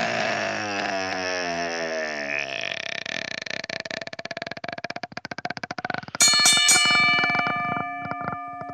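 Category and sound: signal or alarm, bell ringing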